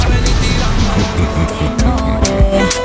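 A motorcycle engine roars, revving steadily with rising and falling pitch over a dense, continuous mechanical drone, loud throughout with a few sharp bursts.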